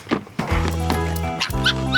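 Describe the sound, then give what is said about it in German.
A young vixen in an audio drama gives squeaky, yelping barks: a short yip, then a drawn-out whiny call and another squealing bark, loud with no talking. “Also, Entschuldigung, war das nicht ein Quiekbellen? Wie ein Delfin.”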